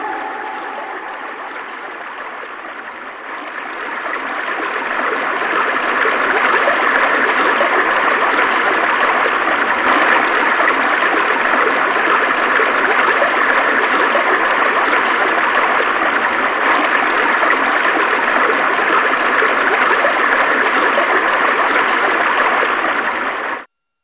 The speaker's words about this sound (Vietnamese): Nhưng tiếng tôi không bay tới chỗ mẹ, cũng không át được tiếng rì rầm của con suối.